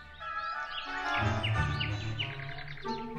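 A small bird chirps in a quick series of short, high tweets, clear, over a soft low background rumble. No one speaks.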